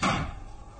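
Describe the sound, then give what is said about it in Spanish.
A bedroom door swings shut with one solid, fairly loud thud as a man leaves the room, followed by a short fading rumble and quiet room tone. “El varón ha abandonado la alcoba. Y ahora Karen se lanza hacia la puerta.”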